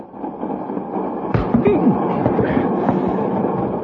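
A moving train rumbles steadily with a broad low roar, punctuated by sharp metallic clanks and rattles partway through, fairly loud.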